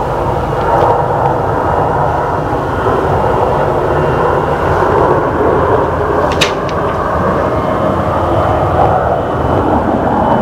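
A steady, loud jet engine roar with a low rumble as an airplane lands gently in New York and rolls along the runway; a brief sharp click cuts through around the middle, with no voices.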